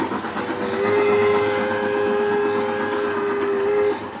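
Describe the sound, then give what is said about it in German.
A large gauge 1 garden model train runs steadily through a garden in Bellach, canton Solothurn, Switzerland, its rumble and clatter continuous while a sustained whistle tone sounds for about three seconds over the top. No one speaks. “Nein, wir sind nicht am Bahnhof. Oder auch nicht am richtigen.”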